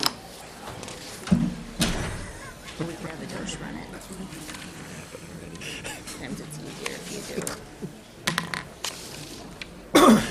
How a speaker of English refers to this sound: Okay, and if someone could please get the door. The door coming and going.